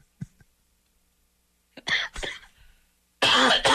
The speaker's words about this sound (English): Still got a little bit of a cough, can you tell?